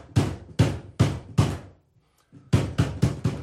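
Firefighters knock on an apartment door to evacuate tenants after a dangerous collapse in the building: four heavy, evenly spaced raps, a brief pause, then four quicker raps in a row. No voices are heard.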